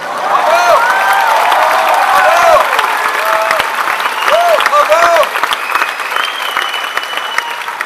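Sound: audience applause and cheering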